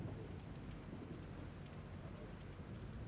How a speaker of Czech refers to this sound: A Mojžíš vyšel z města, stáhl ruce k Jehovovi a hřmění a krupobití přestalo.